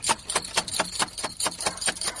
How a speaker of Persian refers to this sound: ده این نصف شب در روزه را کی میزنه؟ او زدی چی گپ هست؟ ده این نصف شب بونگ بونگ کده میری؟ او مرده که بخی که دروازی اولی تک تک شد. چی؟ دروازی اولی تک تک شد؟